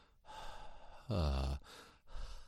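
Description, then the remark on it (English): A person imitates a dog's panting as a voice exercise for an airy H sound, with a few breathy huffs of air, one of them briefly turning into a voiced, sighing vowel before the airy puffs resume. “Don't actually put an R on the end of it at this stage, but that's the kind of sound that we're trying to get, that panting like a dog, or the her without an R sound on the end.”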